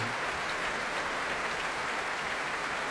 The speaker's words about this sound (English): Emmanuel Axe applauding the orchestra, they applauding him. Bernard Haitink again bringing the players to their feet. And just listen to those cheers.